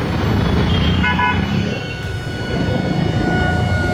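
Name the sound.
car horns honking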